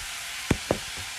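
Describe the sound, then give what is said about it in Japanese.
A generous amount of fish sauce (nam pla) is poured into a hot pan with a steady, hissing sizzle, broken by two quick clacks of a utensil or bottle about a fifth of a second apart. No one speaks. “お、ナンプラー投入。わー、結構入れたな、お前。”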